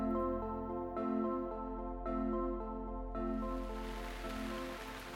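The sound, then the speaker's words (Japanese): Steady rain, falling since morning on a spring day, hisses over a sustained musical drone, the patter swelling louder and fuller toward the end, with a few soft thuds marking the opening seconds. “イワジョが16になったある春の日のこと、朝から雨だったので、働き者のイワジョは山仕事の代わりに家の中で旗を折っておりました。”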